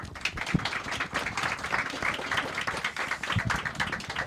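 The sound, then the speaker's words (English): An audience applauds a panel of guests, with dense overlapping hand claps forming a continuous, moderately loud patter that holds even throughout without pause. “Please give them all a round of applause.”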